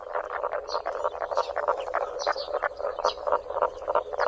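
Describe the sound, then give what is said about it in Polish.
A dense chorus of fire-bellied toads, many short grunting calls overlapping in a rapid, steady pulse, with occasional higher chirps standing out above the mass; no voices are heard. Recording from a CD by Leśne Studio Filmowe Lasów Państwowych. “Ich druga nazwa to huczek. W sumie nie wiem dlaczego, bo te dźwięki to właśnie takie dla mnie bardziej chrumkania.”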